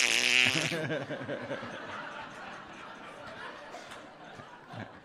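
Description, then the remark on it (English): A voice mimics a wet cat: a loud, harsh, strained yowl bursts out first, then trails off into quieter, wobbling whines and sputters over several seconds. “I'm glad you did the wet cat impression to drive that home.”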